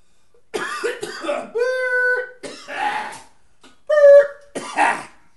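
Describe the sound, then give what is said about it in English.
Several harsh coughs come in uneven bursts, mixed with strained, voiced throat sounds between them, loud and with no talking. “Was trying so hard not to cough.”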